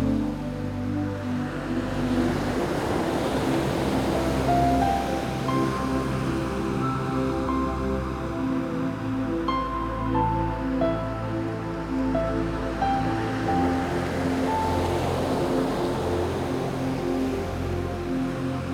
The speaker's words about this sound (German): Du spürst den feuchten Sand und mit jeder sanften Welle umspült das warme Wasser deinen Körper. Du hörst dem Meeresrauschen zu und wirst noch ruhiger und entspannter.